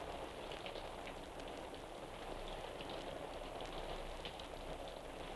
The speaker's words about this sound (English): A summer rain sounds pretty much the same in the forest, in the swamp, or in the city.